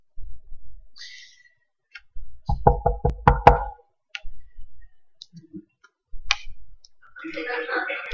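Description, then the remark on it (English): A quick burst of about six loud, sharp, firm knocks on a wooden bedroom door, surrounded by quieter scattered sounds before and after. “I would say that not a week goes by that there isn't a knock on our bedroom door at some point in the middle of the night.”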